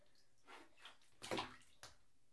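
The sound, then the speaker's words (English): Water gurgles and sloshes as a Pooh Bear bath toy fills, in a few short bursts with one louder gush near the end, quiet, with no talking. “Pooh Bear just drank a bunch of water.”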